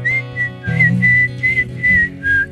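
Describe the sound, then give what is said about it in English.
A person whistles the short intro tune of a song in clear sustained notes in a steady melodic phrase, with some low background sound underneath and no talking. “Can you do a whistle for me for the intro? In the right key?”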